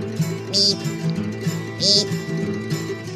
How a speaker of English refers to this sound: That's the American Woodcock.